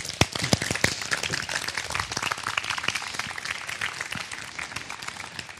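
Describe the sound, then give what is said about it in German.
Steady audience applause for a speaker after a talk, dense overlapping claps with a few sharper hand claps standing out, sustained evenly for several seconds without any talking. “Ein Applaus”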